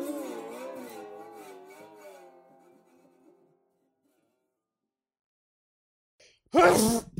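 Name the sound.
sneeze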